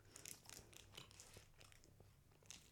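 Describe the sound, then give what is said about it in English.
Wet chewing of a sticky, dense chewy candy, with repeated soft squelches and small crunchy clicks spread across a few seconds, no talking. “Oh, it just takes a lot of effort to chew.”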